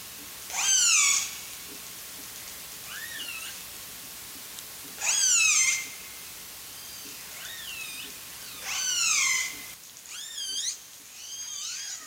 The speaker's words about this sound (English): The orcas called back and forth for hours. The whales swam closer and their calls got louder, rising and falling across the dark.